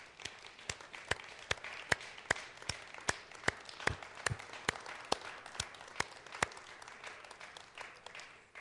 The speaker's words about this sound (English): How about let's give a great hand of applause for our mothers this morning.